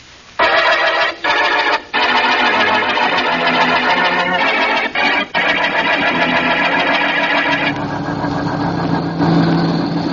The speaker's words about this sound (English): Sorry, buddy, but my car's stalling. I can't. The battery's gone.